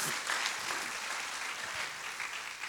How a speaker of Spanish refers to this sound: Fuerte, un fuerte aplauso. Amén.